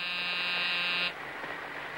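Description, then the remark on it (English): A harsh, steady electric door buzzer, pressed by a woman in a bookshop to let a man into a back room, drones for about a second with dense harmonic tones, then cuts off abruptly, leaving a soft background hiss. “The woman wags her hand toward a back room, then buzzes him in.”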